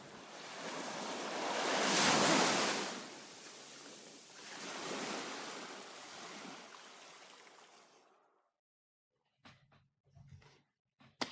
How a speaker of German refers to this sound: Und als der Druck endlich aus seinem Kopf entwich, war er umringt von nichts außer dem Rauschen des Meeres.